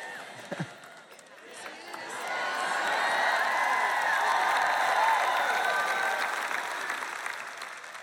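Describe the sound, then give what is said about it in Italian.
An audience breaks into applause at the words that Jesus is about to return, the clapping swelling over the first couple of seconds into a dense, steady roar that holds loudly to the end, with faint voices mixed in. “So che applaudite se dico che Gesù sta per ritornare, ma assicuratevi che stiate vivendo oggi in un modo che vi farà applaudire quando verrà quel giorno.”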